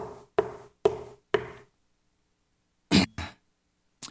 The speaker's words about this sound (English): Monday, I'm in there, I knock on the door.